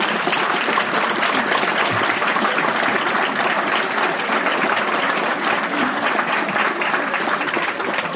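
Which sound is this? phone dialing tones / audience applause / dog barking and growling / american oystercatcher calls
audience applause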